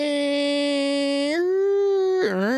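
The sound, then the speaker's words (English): A voice imitates an old 12 baud dial-up modem connection noise to mock the spotty internet at CKW: a steady, buzzy held tone that steps up in pitch, then breaks into a quick warbling slide near the end, loud and alone. “After a little bit of technical difficulties, man, I don't know if we paid our internet bill because things are spinning, you know, like the old 12 baud modem days, you know.”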